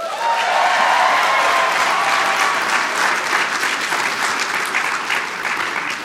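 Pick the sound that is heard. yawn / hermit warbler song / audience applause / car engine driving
audience applause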